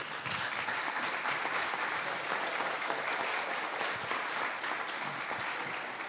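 A sustained, strong round of applause from a crowd at a ceremony as officials and city councillors are invited to take their seats at the table, dense and steady throughout with no pauses, holding at an even level for the whole six seconds.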